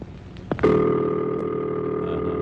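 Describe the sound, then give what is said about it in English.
After a short click, a steady telephone ringback tone starts and holds as one continuous, slightly buzzy hum until the end, heard through the line with no one talking. “And this is the ringing signal.”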